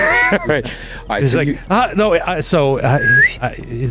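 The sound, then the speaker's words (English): A person whistles a short, rising bird-like call amid other vocal sounds, the whistle sharp, lasting well under a second near the end. “All flashback, all of us sitting around a campfire just trying to do bird whistles.”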